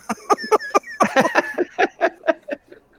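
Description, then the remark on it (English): A rapid series of harsh, honking barks from about 20 sea lions, heard in the background of an amateur radio transmission, overlapping in an irregular rhythm, loud, with no talking. “These gosh darn sea lions. There's about 20 of them out here right now.”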